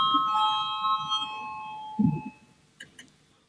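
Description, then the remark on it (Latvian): A parliamentary voting bell rings for a vote on deputy Feldmans' proposal, with a steady, bright tone that fades out after about two seconds, over a low murmur, followed by a couple of soft thuds. “Lūdzu zvanu, balsosim par 18.”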